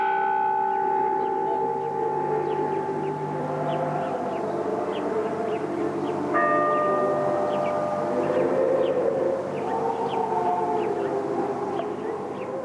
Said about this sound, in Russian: Звучат гефсиманские колокола. Подлинная запись.